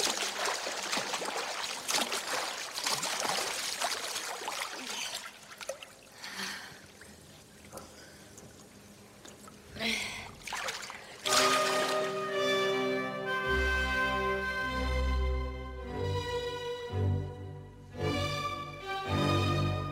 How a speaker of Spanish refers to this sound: Que hay agua lo vemos, sí. Lo oímos, quiero decir.